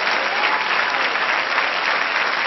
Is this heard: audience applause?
yes